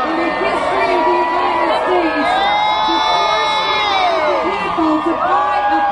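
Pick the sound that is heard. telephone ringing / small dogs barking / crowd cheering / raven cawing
crowd cheering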